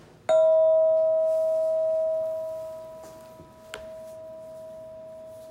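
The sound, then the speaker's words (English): A single meditation bell is struck once and rings out with a clear, steady tone that slowly fades over several seconds, with a faint tap partway through. “And listening to the sound of the bell.”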